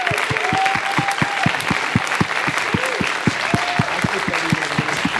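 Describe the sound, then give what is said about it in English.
Loud, sustained applause from an audience for Pastor Peter and Irene Kesarevu, visiting from Uganda, dense clapping mixed with scattered cheers and whoops continuing steadily throughout. “And so I just want you to give a big round of applause for Pastor Peter and Irene Kesarevu, who are here from Uganda.”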